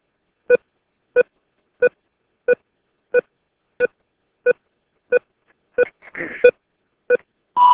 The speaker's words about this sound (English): Leave your name, number, and a message after the beep, and I'll get back to you as soon as possible.